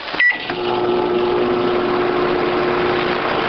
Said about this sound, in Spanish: ¿Un horno microondas, quizás? Pues sí.